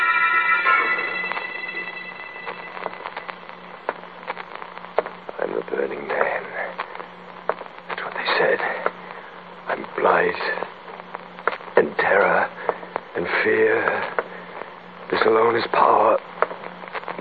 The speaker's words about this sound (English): Listen. I hear static.